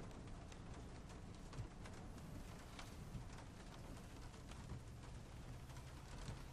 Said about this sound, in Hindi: अचानक शुरू हो गई और जब शुरू हो जाती है तो फिर रुकती नहीं। क्या बारिश भाई, बारिश। सुबह तक तो मौसम ठीक था, पता नहीं अचानक क्या हो गया।